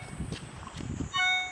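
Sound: mobile phone ringing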